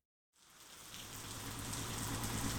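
Heavy rain sweeps in across a bay at the New Territories docks after a moment of silence, a dense steady hiss that swells and grows louder as it closes in, with a low rumble beneath and no voices.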